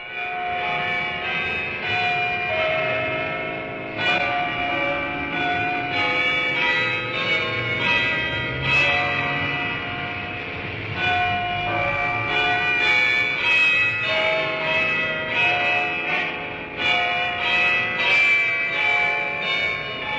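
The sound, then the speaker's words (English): A full peal of church bells rings continuously and loudly on a Sunday, strikes overlapping into a dense, shimmering wash of tones with no talking throughout. “And on Sunday, there are church bells.”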